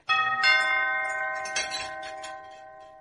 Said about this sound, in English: Suddenly there was a ring at the door.